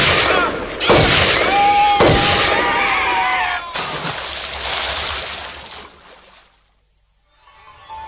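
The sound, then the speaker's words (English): A few loud, heavy splashes as a person falls into a river, followed by several seconds of churning, rushing water that fades away into near silence. “Excuse me, unkind sir, but our colleague has into the River Lethe fallen.”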